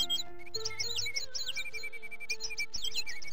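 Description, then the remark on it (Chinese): Sparrows chirp and twitter busily in a forest early in the morning, a steady stream of quick, high calls, clear, with a faint hum of other birds in the background and no voices. “一大早，森林里的小鸟就叽叽喳喳地催宗宗起床。”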